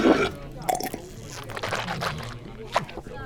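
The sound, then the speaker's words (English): Wet swishing of a sip of beer in the mouth during a beer tasting, a few quick gurgling sloshes with small liquid clicks and squelches, moderately quiet and heard on its own. “I swished it too fast.”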